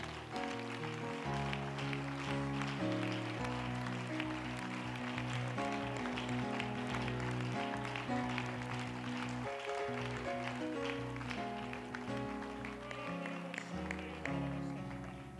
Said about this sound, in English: Somebody give the Lord a hand clap of praise right now.